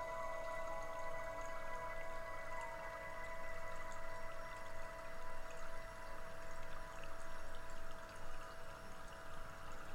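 Steady flowing water babbles and trickles without pause, a continuous soft rush at an even level, fairly close, with no voices present.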